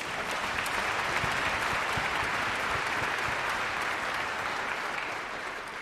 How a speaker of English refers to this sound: Maestro Frubeck always brings to us, yes, I think that deserves some applause.